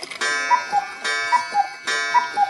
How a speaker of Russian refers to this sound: Вдруг где-то рядом щелкнуло, скрипнуло. Васильченко вздрогнул, схватился за пистолет, обернулся на звук. Из ходиков вдруг выскочила кукушка.